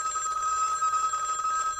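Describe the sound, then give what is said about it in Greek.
A telephone bell rings continuously, a bright, steady metallic trill filling almost two seconds before cutting off, with no voices over it. “Α, πάλι τηλέφωνο.”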